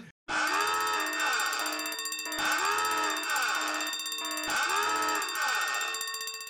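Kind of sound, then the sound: signal or alarm, alarm bell ringing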